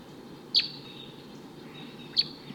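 A wild male bird perched in the top of a tall eucalyptus tree gives two short, high tooping notes about a second and a half apart, each clear and sharp above a steady low rumble of background noise.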